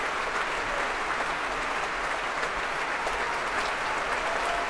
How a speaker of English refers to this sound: But he clearly enjoyed that. Impassioned, energetic conducting, a man for whom the word gusto was invented, I believe. Returning to the stage now to soak up some more of that applause, bringing the woodwind section to their feet.